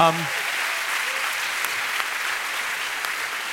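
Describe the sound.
Steady audience applause, a dense wash of many hands clapping at an even level for several seconds, with a brief voice trailing off at the very start.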